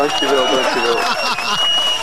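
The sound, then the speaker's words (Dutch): Canteen staff clap briefly and steadily for a colleague's birthday while voices chatter and call out over the applause, with a faint high steady tone lingering in the background. “Ja, applaus.”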